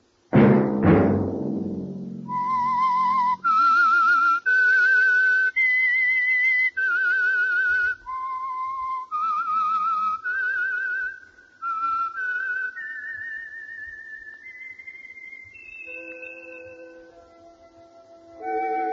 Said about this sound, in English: Let that whistle be your signal for the Signal Oil program, The Whistler, each Wednesday night at this same time.